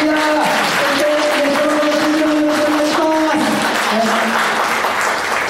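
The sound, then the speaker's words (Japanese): A crowd claps steadily and loudly in thanks to God for the whole stretch, a dense continuous wash of applause with some tonal voices or cheers threaded through it. “もう一回ですね、神様にですね、感謝の拍手しましょうか。”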